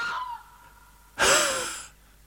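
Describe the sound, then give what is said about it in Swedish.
A red fox gives one loud, harsh bark with a wheezy, asthmatic, breathy rasp, preceded by a fainter, softer call. No one speaks. “Den astmatiska karaktären tycker jag är ganska tydlig i rävens skall.”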